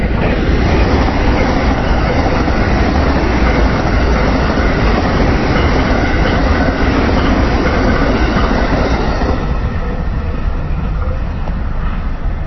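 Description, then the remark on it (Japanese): An electric train rumbles past, a loud, steady roar of wheels on rails that fills the scene before easing slightly toward the end, with no voices present. “はい、また電車が通り過ぎていきましたが”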